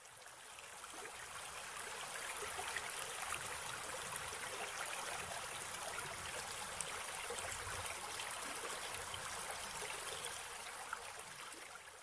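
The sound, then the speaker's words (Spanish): A mountain stream rushes steadily, its water flowing down from the mountains in a constant, hissing wash with small gurgles and no pauses, water that irrigates the farmland of Zapotec communities; no voices at all. “El agua que fluye de las montañas riega las tierras de los pueblos zapotecas, la nutre haciéndolas fértiles y muy buenas para la agricultura y la ganadería.”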